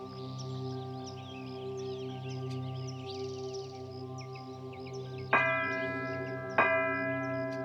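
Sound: meditation bell ringing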